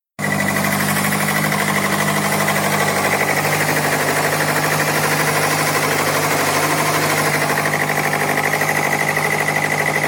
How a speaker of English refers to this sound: The noise produced is more like a clicking or chattering, and the sound is due to a worn-out valve train or its components, as well as a worn-out camshaft lobe. This is what the valve train knock sounds like. Let's listen.